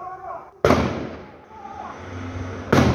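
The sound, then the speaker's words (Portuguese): Two loud, sharp gunshots about two seconds apart, each a sudden cracking bang that rings out and slowly fades, with faint murmuring voices in between; recorded by a resident of Guarapuava, Brazil, during a gang's attack on a cash-transport company. “Foi lá, tiro.”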